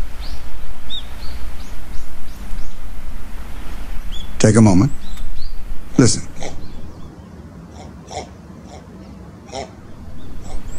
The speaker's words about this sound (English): Not pigs. That's a mating colony of double-crested cormorants.